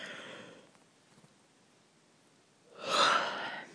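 A person yawns: a soft breathy inhale fades into quiet, then swells into a loud, airy exhale near the end, with no talking.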